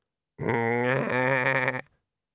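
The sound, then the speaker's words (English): A single old sheep being sheared bleats loudly, one sustained, quavering cry lasting about a second and a half before cutting off into silence. “The sheep wasn't even trying to struggle.”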